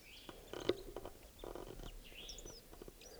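bird, bird call

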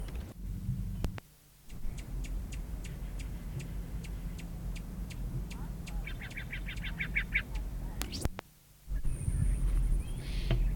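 bird, male rufous hummingbird

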